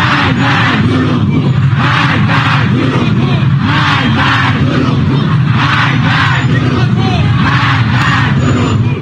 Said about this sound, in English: A group of Iranian protesters demanded Iran's supreme leader Ayatollah Ali Khamenei to step down on Saturday after Tehran said that its military had mistakenly shot down a Ukrainian plane, reports the Jerusalem Post.